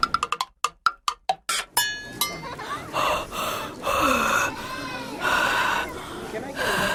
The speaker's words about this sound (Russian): Ты что делаешь? Дышу себе на ладошку. Зачем? Проверяю, какой воздух. Теплый или нет? Ну и как? Теплый.